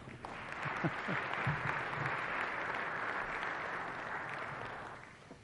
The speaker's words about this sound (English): Everybody for peace, applaud.